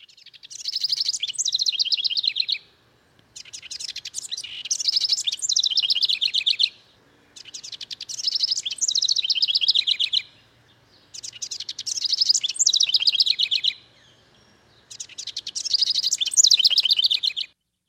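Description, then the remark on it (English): A house wren sings five bubbling, rapid song bursts, each about two seconds long and separated by short pauses. The song is loud, with clear, high trilling notes and no voices. “So that's the house wren.”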